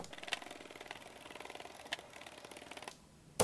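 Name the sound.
keyboard keys being pressed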